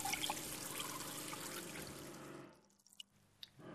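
Water pours steadily for a couple of seconds with a bright, splashy rush, then drops away to a quiet stretch with a few soft gulping clicks as someone drinks.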